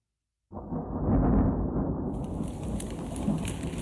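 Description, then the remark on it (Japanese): Heavy rain begins abruptly after a moment of silence, a sudden shower in a forest, with a deep rumble of thunder rolling underneath as the downpour steadily hisses and patters. “突然雨に降られてしまった君は、急いで家に帰るために帰り道の途中にある森の中を走っていく。”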